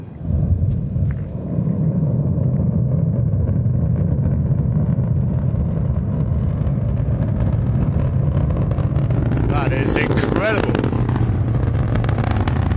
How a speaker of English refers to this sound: Sounds like the sky's ripping. That is the Ariane 5 crackling into the sky and leaving behind it an enormous plume of steam and smoke and into the cloud and on towards the International Space Station.